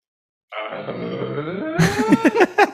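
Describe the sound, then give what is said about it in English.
A low, drawn-out vocal grunt that breaks into a few quick sputtering pulses at the end, making it sound like a fart. It's fairly loud, with no other talking. “See, that sounded, that did sound like a fart just now.”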